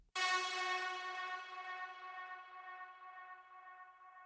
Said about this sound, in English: The next part is called Gated Pluck Particles. It comes from the UHE Zebra 2 synth. It has some minor tweaks to it, plus I put a channel EQ and a Space Designer reverb on it. This is the sound as it is by itself.